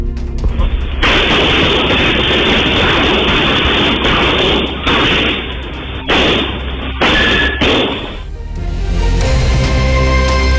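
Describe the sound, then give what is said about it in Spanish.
Loud, dense bursts of gunfire crackle continuously for several seconds, with a few short pauses, before fading into a low rumbling background near the end; a shootout between security guards and four criminals in an area with several food outlets. “Pasemos a escuchar el sonido ambiente de esa balacera.”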